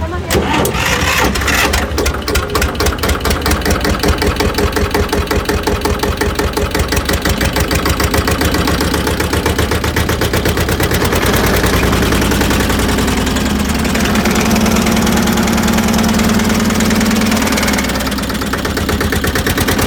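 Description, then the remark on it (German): An engine cranks and catches, then settles into a steady, rapid idle with a dense, even pulse that stays loud throughout. A low hum holds briefly near the end. “Können wir mal hören, wie er klingt?”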